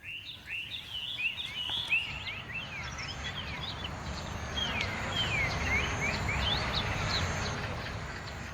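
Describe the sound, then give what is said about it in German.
Chinese birds singing in the radio work Snake Bride by Marina Abramovic and Ulay: a steady stream of high, quick chirps and short sweeping whistles, layered over a constant low rumbling noise, with no voices. “Und bei Snake Bride singen endlich die versprochenen chinesischen Vögel.”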